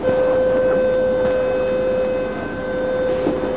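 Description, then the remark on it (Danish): A recorded train sound, taken from the Danish website toglyde.dk: a steady, loud electric whine holding one pitch over a dense rumbling noise, continuous for a few seconds with no voices. “Alle disse lyde har vi været inde og stjæle, om man vil. Vi har lånt den fra en side, der hedder toglyde.dk.”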